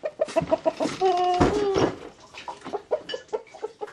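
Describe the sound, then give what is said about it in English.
Chickens kept at a cluttered rundown house in the hamlet of Vieni on Sakhalin Island cluck in quick, uneven bursts, with a longer drawn-out squawk in the middle, several birds chattering together without any talking. “64-year-old Lydia Muvchik lives in a cluttered rundown house with three relatives and a bunch of chickens.”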